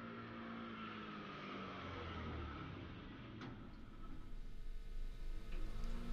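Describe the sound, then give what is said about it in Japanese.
A small newspaper delivery motorbike engine hums past, its low rumble swelling louder toward the end, with no voices present. “新聞配達のバイクが通る音ってさ、なんかいいよね。”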